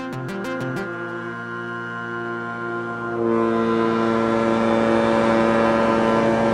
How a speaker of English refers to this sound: As the Inner Island ferry chugs away from the dock in Ketchikan, bound for Prince of Wales, salmon leap out of the water in its wake.